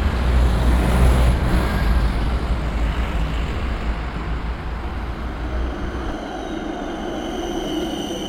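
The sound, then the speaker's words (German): A tram rumbles in to a stop and slows, its low, steady roar easing off, with a thin high squeal at the start and a hiss of brakes as it comes to a halt. “Schau, Oma, die Straßenbahn ist schon da.”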